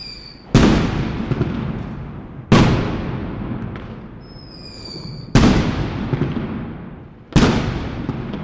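fireworks exploding

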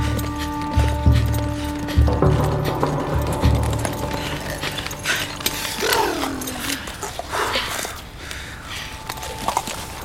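horses' hooves clip-clopping

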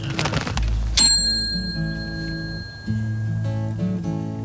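bicycle bell ringing

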